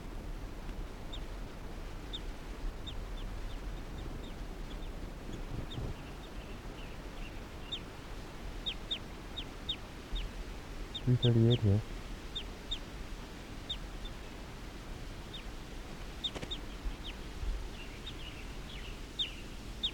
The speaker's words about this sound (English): Recording, this is bird 338 calling softly in response to a wild bird.